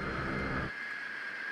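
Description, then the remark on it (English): A propeller airplane engine rumbles loudly as the plane drifts down onto the tarmac at Roosevelt Field, then its low drone cuts out abruptly partway through as the prop turns its last, leaving a steady thin whine and faint hiss. “Better to be there When you drift right down onto the tarmac here at Roosevelt Field, just as your prop turns its last.”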